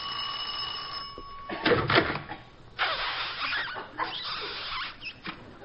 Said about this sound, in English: I'll ring the bell.